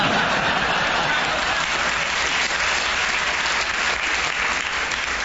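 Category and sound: crowd, audience applause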